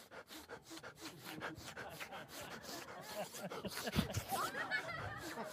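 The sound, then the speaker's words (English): A person imitates a drug-sniffing dog at an airport with rapid, rhythmic breathy sniffs, repeated steadily for several seconds at a moderate, even loudness. “I'm sniffing everything.”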